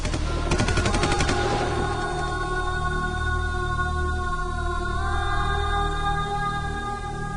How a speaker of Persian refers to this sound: آیت سوار اتومبیل خودش می شود که از جانب افراد مخفی در آن بنز توسط مسلسل ترور می شود و نزدیک به 65 گلوله به بدنش اصابت می کند و هنوز هم جای گلوله ها روی درب منزل او هست.